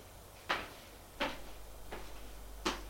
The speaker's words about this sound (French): Et ils frappent à une porte.